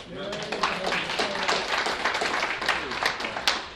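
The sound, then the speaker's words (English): An audience claps steadily for a few seconds, a dense patter of many hands at even loudness, with some voices calling out underneath near the start. “Yeah, we could clap.”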